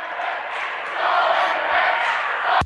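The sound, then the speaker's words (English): The opposing Cecilia crowd cheers and roars across a gym after a missed second free throw in a basketball game, the noise swelling after a second and holding steady, with a sharp knock just before the end. “Cecilia's crowd across the way likes that one.”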